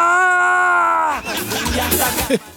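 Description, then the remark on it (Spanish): A man's voice imitates the loud, sustained scream of a man in pain after a bus seat behind snapped back with a metallic sound, a strained held cry of about a second that breaks into rough, ragged vocalizing and trails off. “Tiene como un sonido medio metálico que hacía, y un caballero pega, larga un grito así.”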